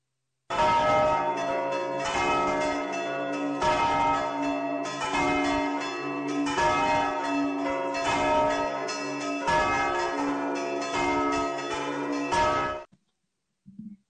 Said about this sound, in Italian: Bene, allora queste campane pasquali ci annunciano un lieto gaudio, il fatto che il Signore è risorto.